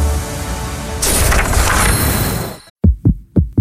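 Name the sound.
heartbeat sound effect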